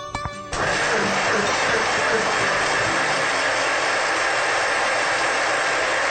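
A blender whirs up with a brief rising motor whine, then roars into a loud, steady churning noise for several seconds without pause. It is pureeing tomatoes, already cooked soft, into a chunky paste for a Mutter Paneer dish.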